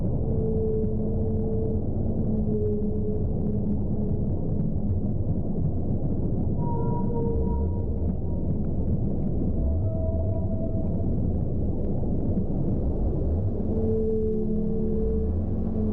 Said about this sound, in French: Cette mélodie est celle d'une baleine bleue, une autre grande voyageuse des océans.